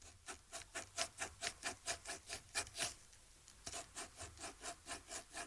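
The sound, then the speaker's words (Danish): Rhythmic scratching of a pen or pencil drawing on paper, with a microphone pointed down at the paper, rhythmically drawing a children's song: a steady series of about twenty quick rasping strokes, fairly quiet, with no voices. “Peger mikrofonen ned mod det papir her, så kan man tegne, en sang ved at rytmisk tegne en.”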